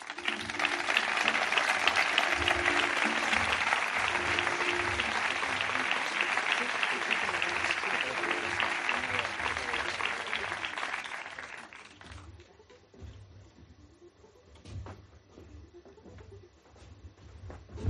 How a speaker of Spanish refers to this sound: Un aplauso.